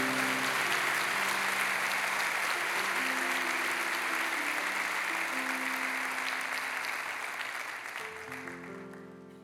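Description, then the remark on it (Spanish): A crowd claps steadily as applause to the Lord for about eight seconds, a dense wash of applause over sustained low keyboard chords, before the clapping thins out and fades while the chords linger. “¿Cuánto le pueden dar un aplauso al Señor por eso?”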